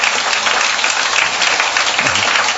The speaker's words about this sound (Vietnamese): Chúng ta đốt một tràng pháo tay để chào mừng tất cả những anh chị em đang vẫy tay.